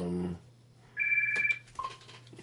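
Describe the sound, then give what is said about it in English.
A single short electronic telephone ring, a bright steady tone lasting about half a second, followed by a fainter brief chirp, with no one talking. “Of course, phone calls coming in right now. I can't answer those.”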